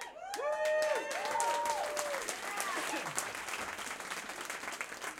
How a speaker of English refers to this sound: Yeah! Don't worry, it's not the State of the Union. You don't have to clap on everything.